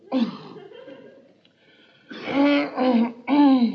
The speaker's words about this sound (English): I was only clearing my throat.